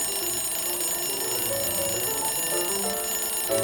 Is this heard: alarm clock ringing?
yes